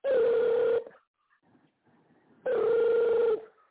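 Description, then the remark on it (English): A telephone rings twice, each ring a loud, buzzy electronic trill lasting under a second, separated by a long quiet pause. No one speaks. “I think we should just let the damn phone ring.”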